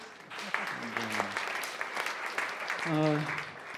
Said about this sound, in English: I think everyone here has done great. And give yourselves a round of applause, too.